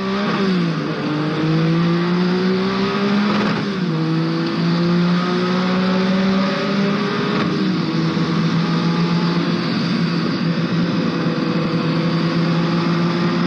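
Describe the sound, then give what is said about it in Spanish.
The engine of the Porsche 956 race car raced by Colombian driver Mauricio and his team roars loudly and steadily, its pitch climbing and then dropping sharply at a few gear changes, with no voices. “Recordamos algunos sonidos del Porsche 956 y algunos de los recuerdos de Mauricio sobre esta competencia.”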